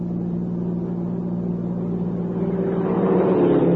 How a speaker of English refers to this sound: Hey, look. There's a car pulling out from the lodge road.